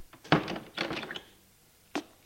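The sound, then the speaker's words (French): An apartment door shuts with a solid thunk, followed by a brief cluster of handle and latch clatter, then one last softer knock. No one speaks. “Ouvre la porte de son appartement. Entre. Ferme la porte.”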